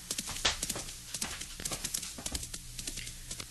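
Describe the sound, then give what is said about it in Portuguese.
Horse hooves clip-clop in a steady run of sharp, hollow knocks, moderately loud, with no voices over them, as a rider arrives on horseback at a farmhouse. “Quer desmontar do cavalo e subir, por favor?”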